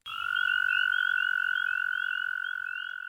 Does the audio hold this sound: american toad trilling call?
yes